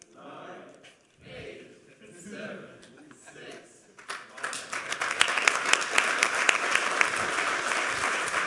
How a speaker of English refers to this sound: Give him another round of applause for being the first today and having so many slides.